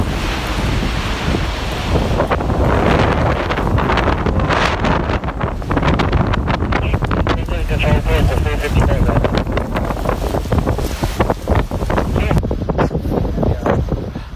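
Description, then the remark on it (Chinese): Strong, roaring wind buffets the microphone continuously, with indistinct radio chatter from firefighters' walkie-talkies breaking through now and then beneath the gusts, recorded during a fire's ember attack on the Sunshine Coast. “其实有些消防员在用 walkie talkie 讲紧嘢啦，咁大家听到啲风声啦，其实琴日啲风声好犀利啦”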